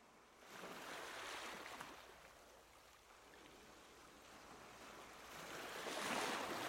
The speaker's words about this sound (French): Le bruit des vagues.